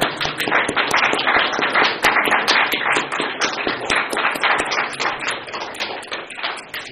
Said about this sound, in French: Merci, vraiment, c'était formidable. Merci. Donc, allez, on peut les applaudir.